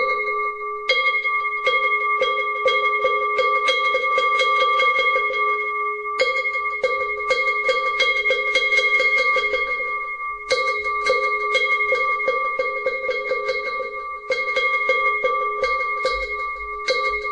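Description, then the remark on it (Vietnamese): A Buddhist ritual bell rings with a long, steady tone under rapid, continuous knocking on a wooden fish. The strikes roll on in quick runs with brief pauses between rounds, fairly loud: three rounds of bell and wooden fish that open a rice-offering rite for the spirit of a deceased person. “Để bây giờ thì bắt đầu vào thì chúng ta cũng cho ba hồi chuông mõ như thế này đã.”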